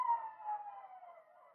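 Faint howling of jackals in the neighbourhood: several overlapping, wavering wails slowly slide downward in pitch and blend into a continuous chorus, with no talking.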